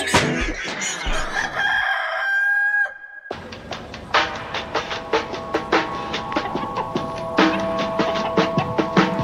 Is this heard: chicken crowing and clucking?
yes